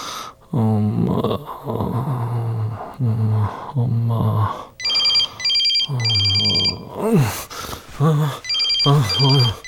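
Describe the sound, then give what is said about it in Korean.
A telephone rings on an outgoing call to a secretary in Sweden, its bright trilling bursts coming in short repeated pairs over a steady bed of voices and other sounds. “그 얼어 뒤졌는지 어떤지 한번 전화해봐.”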